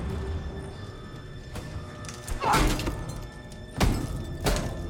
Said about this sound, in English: She bangs her fist repeatedly against the wall.